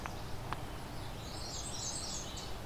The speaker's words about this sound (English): So, you know, we're talking about birdsong. We're hearing a lot of birdsong right now. Yeah. I'm hearing a redstart, which is a small warbler.